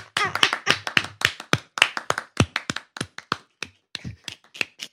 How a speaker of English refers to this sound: Slow clap, you know. Go. Man did the slow clap. It's the way he went.